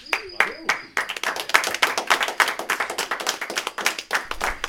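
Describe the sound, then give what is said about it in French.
A crowd breaks into dense, steady applause as a guest walks out, many hands clapping in a fast, continuous patter that stays loud throughout, with a few sharp claps standing out at the start. “Et je suis sorti sous les applaudissements.”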